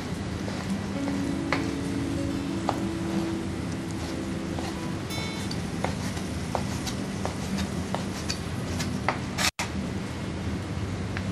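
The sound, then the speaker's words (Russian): A knife taps irregularly against a cutting board as fresh raw salmon is chopped finely, almost to mince, for a fish filling for stuffed crepes, the sharp little knocks fairly quiet over a steady background hum, with one louder clack near the end. “Это свежая семга? Да, свежая семга. Мы ее изрежем помельче.”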